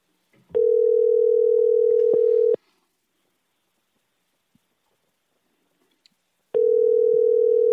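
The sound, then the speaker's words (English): A phone ringback tone purrs over the line as a call is placed to a man, a steady low tone lasting about two seconds, a long pause, then the next ring starting. Clear, with no voices. “He's going to push it right to voicemail.”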